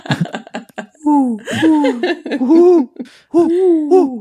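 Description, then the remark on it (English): A person imitates an owl with a run of loud, drawn-out vocal hoots, each swooping up and down in pitch, preceded by a few quick clicky sounds. “He's gonna like lunge at you in a second because he thinks you're an owl.”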